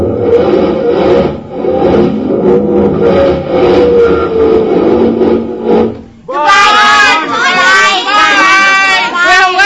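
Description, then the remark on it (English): A car engine revs hard and steadily for several seconds with the brake still on, straining without pulling away, then cuts off as excited voices break in and take over. “I forgot to take the brake off.”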